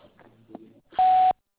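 A single loud, steady answering machine beep lasting about a third of a second, preceded by faint, muffled voice-like murmuring and followed by silence.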